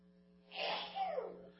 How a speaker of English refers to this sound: Bless you. No, my wife is not allergic to me. Okay, she isn't.